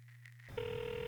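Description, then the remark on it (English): A phone line ringing on an outgoing call: a low steady hum shifts into a sustained electronic ringback tone, filtered and tinny as if heard through a handset, with no voices. “This ain't even my fucking phone. Oh, come on, pick up, dogs.”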